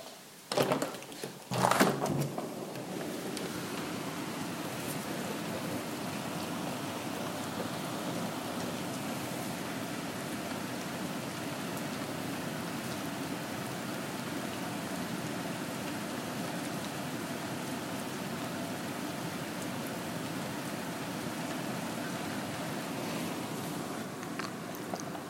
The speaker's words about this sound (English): I kind of want to record the rain and see what happens. I hope I can capture that.